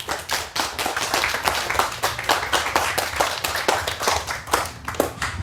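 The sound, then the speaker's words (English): A crowd applauds the speakers of a talk on free software infrastructure for online campaigning in the EU. Many hands clap in a dense, continuous patter with sharp individual claps standing out, sustained at an even loudness throughout with no talking. “And please give a hand of applause to our speakers.”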